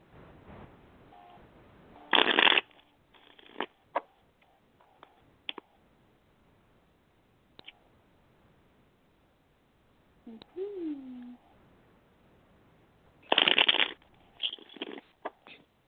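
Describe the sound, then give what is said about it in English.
A deck of playing cards is riffle-shuffled twice, each shuffle a short, dense ripping flutter, separated by quiet stretches with scattered light clicks and taps of cards being handled. “I think let's give these guys a shuffle really quick.”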